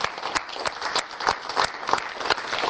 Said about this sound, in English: I'd like to give them all an applause for the hard work that you've done.